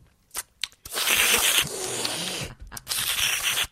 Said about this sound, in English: I don't know if it's a New York thing or if New Yorkers just don't know how to close their mouth when they eat, but that's Zack Ryder. He chews with his mouth wide open when he eats normal food.